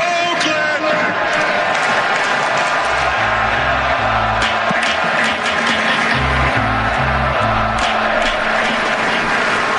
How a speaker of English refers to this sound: I think we all should pay homage to this amazing stadium that we've had the privilege and pleasure of enjoying for 57 years. And I ask you for one more time to start the greatest cheer in baseball. Let's go!